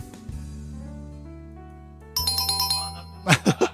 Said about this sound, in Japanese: 最後で鳴ってる、最後でピンポン鳴りましたね。卒業がピンポンみたいな感じになっちゃった。まあでも最後の最後でピンポンも鳴れたんで、よかったなと思います。